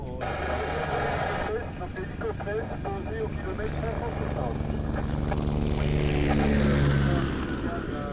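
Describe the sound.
A steady, loud engine drone with layered humming tones from helicopters and planes at the airport in Timbuktu, Mali, during the Paris-Dakar rally, with people talking beneath the noise.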